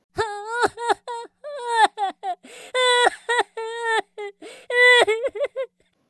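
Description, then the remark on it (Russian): A person reading a story aloud to a child mimics theatrical sobbing for a princess, with a run of wavering, high-pitched wails and whimpers broken into short uneven gasps, and no actual words spoken. “Рыдайте за принцессу.”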